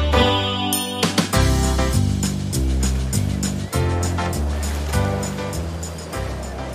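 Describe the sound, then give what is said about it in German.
Rough waves of a stormy sea surge and crash continuously with a loud roar, while deep rumbling tones rise and shift underneath, like a rocking boat out for an algae harvest labouring through the swell. No one speaks. “Algenernte auf stürmischer See.”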